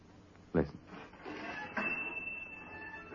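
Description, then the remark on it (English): A door thumps open as a customer enters the Jot'em Down store, then the small bell on the shop door rings out with a bright, high tone that lingers and slowly fades over a soft background hum. “When'd you get the bell put up on the door?”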